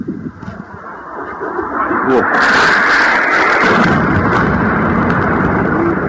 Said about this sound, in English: So count the explosions and then listen for the sound right before the explosions. You're going to hear differences. They're not all the same.